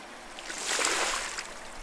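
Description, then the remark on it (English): Water ripples and laps close by, a soft splashing swell that builds in the middle and then eases off, with no voices present. “A ripple in the water catches your attention and your heart beats with excitement.”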